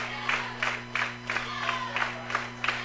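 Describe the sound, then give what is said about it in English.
A big, packed home stadium crowd at an American football game roars in rhythmic pulses, about three bursts a second, like a chant or clapping cadence, as a kickoff is set late in the first half, with a steady low hum underneath and no one speaking. “So far, this home crowd, everybody's piled in. There's a lot of people today”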